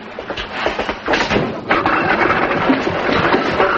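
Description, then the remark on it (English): A noisy home washing machine washing a family's dirty laundry runs with a steady, dense mechanical rumble and constant rattling and clanking, loud throughout with no pauses. “your family must have awful dirty laundry to make that much noise.”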